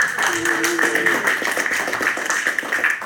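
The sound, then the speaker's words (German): Applause from a crowd at a monastery, thanking the IT support team for getting the printers working, a dense steady patter of many clapping hands lasting a few seconds, with a brief tonal voice-like sound early on. “Ja, du meinst, ihr hatte genau Applaus.”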